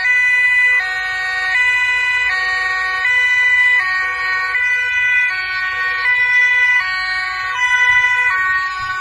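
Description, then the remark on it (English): A loud two-tone European-style emergency siren at the Dutch farmers' protests, which firefighters support, alternates steadily between high and low pitches, with a low rumble of road traffic underneath and no talking. “Love that Euro sirens.”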